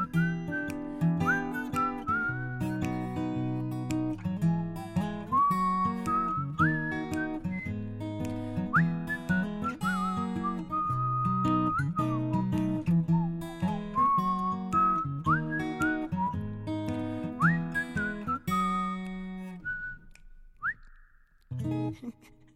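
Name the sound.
whistling a song melody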